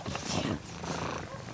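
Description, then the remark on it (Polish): A cat purrs, a steady low rumbling vibration that swells and eases with its breathing, with no talking over it. “A tak mruczy, no.”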